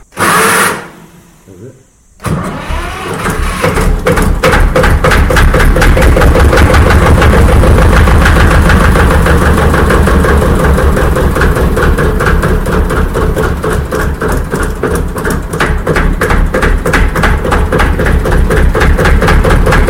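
The diesel engine of a 1957 Porsche tractor with glow plugs clatters to life after a brief pause, then runs loud at a steady, rhythmic idle with a rapid knocking pulse throughout as it warms up.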